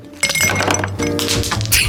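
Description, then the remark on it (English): Ice cubes tumble and clink into a tall glass being filled with ice to make a cocktail, a quick cluster of bright, glassy knocks, followed by a few more rattling clinks as they settle. “fill a tall glass with ice, the way children fill our lives with so much joy.”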